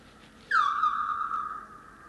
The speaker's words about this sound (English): Wow. That was a little bird. Oh, okay. Yeah. That's a little bit of bird song.